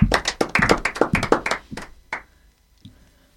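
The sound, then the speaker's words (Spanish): A brief round of applause for the young people from Ateneo: a small group clapping in quick, uneven bursts for about two seconds, tapering off to a few final claps and then quiet. “Bueno, un aplauso para los chicos de Ateneo.”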